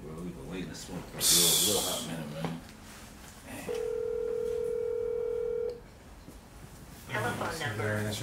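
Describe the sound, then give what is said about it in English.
A phone call's ringback tone plays as a steady two-second electronic tone while a man calls a late friend, framed by men talking before and after, with a brief burst of noisy breath or rustling early on. “Hope this nigga answer the phone.”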